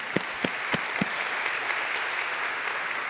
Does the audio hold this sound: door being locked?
no